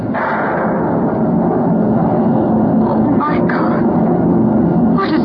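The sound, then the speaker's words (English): Loud, deep thunder from a thunderstorm under dark, dreary clouds rolls on without pause, a heavy low rumble that swells with a couple of sharper cracks partway through and again near the end. “Dark, dreary clouds. Followed by loud bursts of thunder.”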